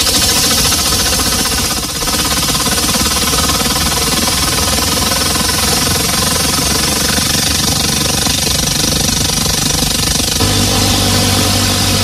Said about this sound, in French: Alors, je vous ai sélectionné des bruits qui sont artificiels. Donc, on écoute le son et après, vous pourrez poser vos questions pour découvrir le secret de ce son. On commence avec le bruit d'un avion ou d'un hélicoptère et voilà ce que ça donne.